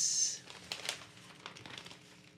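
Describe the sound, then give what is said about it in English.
Newspaper pages being turned and crinkled, a flurry of crisp, papery crackles and rustles over a couple of seconds with no one speaking. “Paper big today.”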